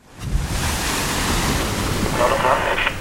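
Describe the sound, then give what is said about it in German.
A steady, loud roar of wind and rushing sea waves, continuous for the whole stretch, with a faint hiss and rumble, heard aboard the 20,000-horsepower research icebreaker Polarstern as it rams its way through metres-thick pack ice in one of the coldest, stormiest seas in the world. “Mit 20.000 PS rammt sich der Forschungseisbrecher Polarstern seinen Weg durch meterdickes Packeis in einem der kältesten und stürmischsten Meere der Welt.”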